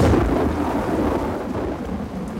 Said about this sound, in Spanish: De pronto, una gran tormenta se desató. Los truenos aturdían y un rayo bajó a la tierra.